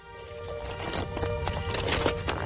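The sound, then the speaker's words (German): Footsteps crunch across the dry, stony bed of a dried-up river in the Parco Naturale della Valle del Ticino nature park on the Swiss border, at the end of July in almost 40-degree heat, a steady run of crisp steps on loose gravel and rock with no voices. “Wir hören Schritte, es sind Schritte in einem ausgetrockneten Fluss.”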